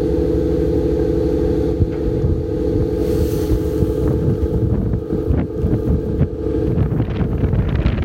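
A small motorboat's engine drones steadily on the water, a constant low hum with gusting wind noise buffeting the microphone and faint splashing throughout.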